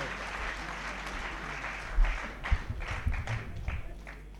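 An audience applauds steadily to welcome a poet from Kota to the stage, a dense wash of many hands clapping at a fairly even level, with a few louder individual claps standing out toward the end.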